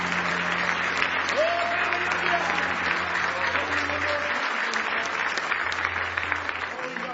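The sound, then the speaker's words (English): An audience claps in praise to Jesus, a dense, steady wash of many hands that holds strong for about seven seconds, with faint voices and cheers rising through it before it eases slightly at the end. “Now give Jesus one more hand clap of praise.”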